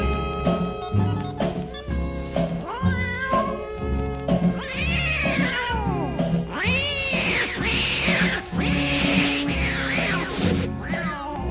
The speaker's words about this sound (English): Now on that very same night. Now that old tomcat started a fight, and this is the way it all did sound to me.